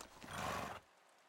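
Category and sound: animal, horse neighing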